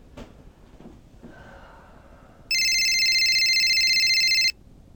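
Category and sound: signal or alarm, cell phone ringing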